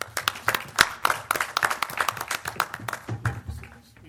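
An audience applauds steadily to welcome a speaker, many hands clapping in a dense, crackling patter with sharp individual claps standing out, holding fairly even before thinning slightly toward the end.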